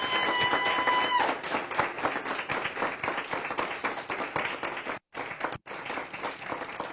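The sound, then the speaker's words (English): A church audience applauds steadily to salute their pastor, many hands clapping in a dense, loud, continuous patter. A faint steady tone sounds briefly at the start, and the applause cuts out twice for an instant near the end. “Clap those hands.”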